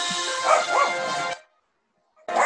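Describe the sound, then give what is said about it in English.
Two quick dog barks ring out over a bright, noisy background, then a sudden silence before the noise abruptly returns near the end. “It's not the show without the dog.”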